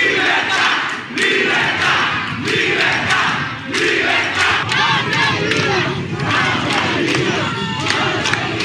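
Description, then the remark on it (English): Thousands of protesters against communist rule shout and chant continuously in the streets of Cuba, a dense, loud roar of many voices with rhythmic surges of collective yelling, such as "down with communism" and "down with dictatorship". “Some 50 protests broke out on the streets of Cuba over the weekend, thousands protesting communist rule and the retarded economic policies of a nation in crisis.”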